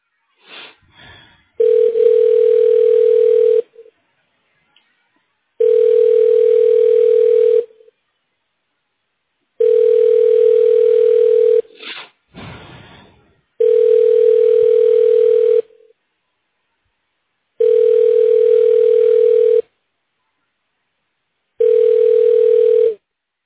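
A steady telephone ringback tone repeats six times in evenly spaced two-second bursts with silent gaps between, clear, with a couple of faint clicks between rings and no voices, while a call is transferred to an outpatient radiology office.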